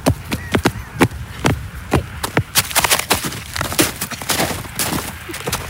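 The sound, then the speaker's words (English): Rapid footsteps, several people moving quickly together, with dense overlapping impacts in a brisk irregular rhythm, fairly loud, with no talking over them. “Those were our footsteps.”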